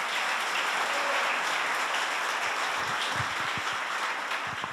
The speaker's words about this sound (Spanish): Un aplauso, por favor.